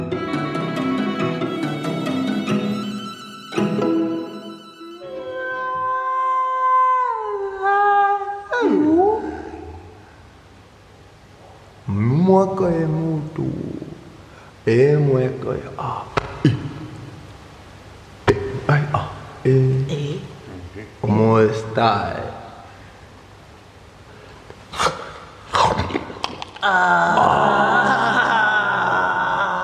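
An experimental piece from 2009 by a composer from Wales, lasting 75 minutes, opens with long, sliding howl-like tones reminiscent of wolves, then shifts into choppy, voice-like vocal fragments and bursts, loud throughout.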